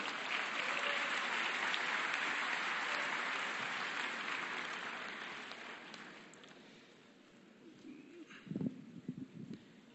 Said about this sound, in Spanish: Le pido ese aplauso, por favor.